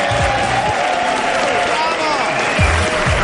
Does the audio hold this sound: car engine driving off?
no